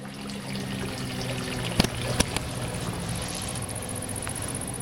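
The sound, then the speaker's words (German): Water splashes steadily into a village fountain basin in Humlicken, a continuous bubbling trickle with a few sharp clicks, while a mowing machine rattles faintly in the background. “Am Brunnen plätschert und irgendwo rattert eine Mähmaschine.”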